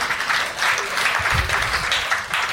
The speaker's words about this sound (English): And at least half of the people here applaud that.